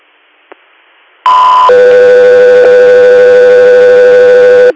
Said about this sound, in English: Got three airs, standby for tones.